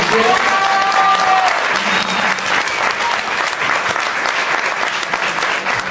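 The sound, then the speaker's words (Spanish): Steady, loud applause from an audience for the book La séptima M by Francisca Solar, published by Random House Mondadori, fills the whole stretch, a dense crackle of many hands clapping with a brief whistle-like tone early on. “Le tenemos la séptima M de Francisca Solar, Random House Mondadori, que por favor aplaudan.”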